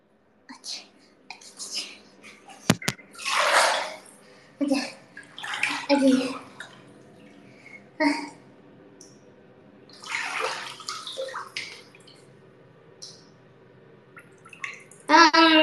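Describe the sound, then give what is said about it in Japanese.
Water sloshes and splashes in a hot bath in intermittent bursts as a person soaks in the hot water, with quiet drips and soft rustling between them and a sharp knock near the start. “お湯に浸かるのはね、10分ぐらい。だって暑いんだ。なんか今頑張って耐えてる。”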